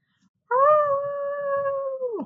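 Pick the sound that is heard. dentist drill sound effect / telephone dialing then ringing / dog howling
dog howling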